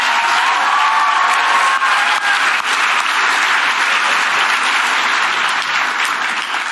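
An audience at a Students for Life event breaks into sustained applause, a dense, steady wash of many hands clapping at a loud, even level for several seconds, with faint cheers mixed in and no one speaking.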